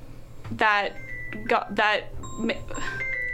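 A mobile phone rings with a bright electronic ringtone: short bursts of clear, high tones repeating in a quick melodic pattern, with brief steady beeps between them, heard over some faint background murmur.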